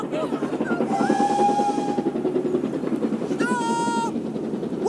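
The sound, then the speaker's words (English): A train rumbles steadily past, loud and continuous, with two bursts of high, shrill whistling or screeching tones riding over the clatter. “The window's open. The train.”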